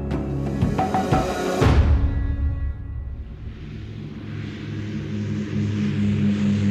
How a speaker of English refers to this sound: At 7:15 a.m., on July the 18th, 1936, a small Dragon Rapid airplane takes off from Croydon Airfield, just south of London, England.